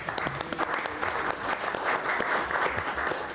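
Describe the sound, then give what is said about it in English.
A round of applause at a council meeting for Councilmember Tiffany Young's work, steady dense clapping lasting a few seconds at a moderate, even level with no voices standing out. “I think, colleagues, we should give our colleague, Councilmember Tiffany Young, a round of applause for this hard work.”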